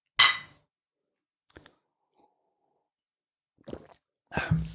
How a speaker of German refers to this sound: Ja, erstmal kurz noch ein Schlückchen Glühwein. Stößchen. Vorsicht.